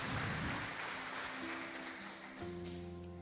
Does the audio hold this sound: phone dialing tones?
no